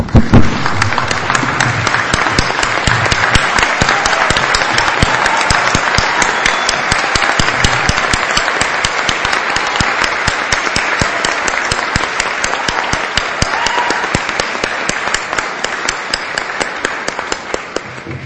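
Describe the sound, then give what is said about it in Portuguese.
A standing crowd applauds steadily for about eighteen seconds in a plenary session honoring two pastors, a dense, loud wash of many hands clapping at an even level, with no voices standing out. “Peço que em pé nós podemos dar uma grande salva de palmas para esses dois homens de Deus que estão aqui.”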